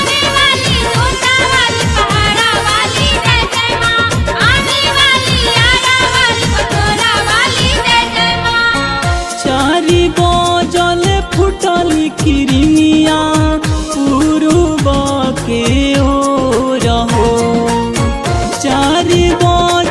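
Loud devotional song music plays throughout, with a steady driving percussion beat under bright, sustained melodic lines that shift partway through into a denser, rhythmic passage.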